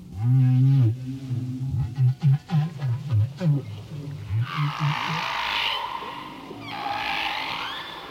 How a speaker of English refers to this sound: We may see here in these feeding songs the way that Mexico whales and Hawaii whales maintain the same song over, many, many years.